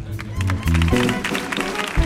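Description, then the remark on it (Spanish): An audience on the comandante Lara show applauds its publicists, Lucy Paradise and Carlos Granaderos, with dense, steady clapping for about two seconds, mixed with low sustained musical tones underneath. “¡Fuerte el aplauso para Lucy Paradise y Carlos Granaderos, nuestros publicistas!”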